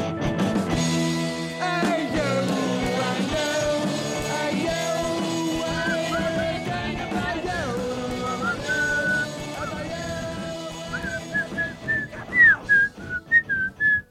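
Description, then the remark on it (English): Someone whistles a wandering, melodic tune over a dense musical backing, with the whistle climbing into higher, warbling notes near the end as the accompaniment thins out. “I just wanted to show everybody how well I can whistle.”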